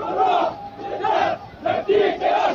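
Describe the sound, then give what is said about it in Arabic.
A protest crowd at a mass popular march in the town of Al-Dair, Bahrain, chants slogans in unison showing popular anger at the regime's disregard for detainees' lives. Loud rhythmic bursts of many voices rise and fall in repeated phrases, with short gaps between each shouted line. “ورغم التهديد والوعيد والاستنفار الأمني الواسع لقوات النظام في بلدة الدي، لم تفلح في منع الأهالي من الخروج في مسيرة شعبية حاشدة ومنع المواطنين من زيارة قبور الشهداء، مرددين شعارات تظهر مستوى الغضب الشعبي من استهتار النظام بأرواح المعتقلين”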